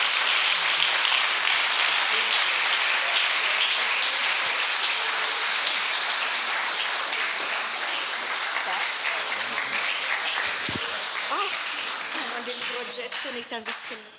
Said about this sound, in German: Und gebt doch mal Eva Erben einen richtig netten Applaus.